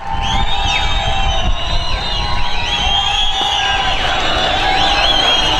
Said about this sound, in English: As you can see, there's a cheering crowd below that just came from Tahrir Square. Celebrating protesters rush pieces of Ahmed Shafiq's destroyed billboard toward Tahrir Square, where it's burnt and stomped on.